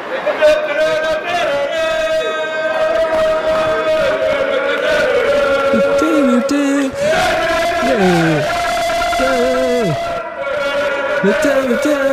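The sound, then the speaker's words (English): A small group of about six football fans of the yellows, jumping around after a win, loudly sings a chant together on a train platform, their raucous male voices holding long, sliding notes in a continuous, rowdy song. “And they were all jumping around, and this is what they sounded like on the platform right next to me while I was waiting for the train.”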